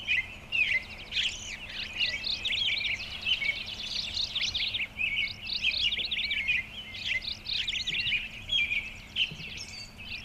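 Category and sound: bird, birds chirping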